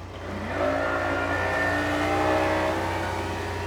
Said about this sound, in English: I think we're too late. They've loaded the submarine and they've started the engines.